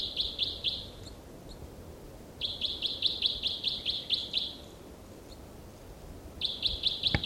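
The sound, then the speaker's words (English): A bird, labelled bird six, sings three bursts of rapid, high-pitched trilled notes, each series evenly pulsed and separated by short pauses, over a low background rumble with no talking. “Bird six there with a song phrase.”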